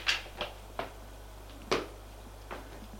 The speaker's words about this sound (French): Ils sortent du séjour. Il ouvre une porte.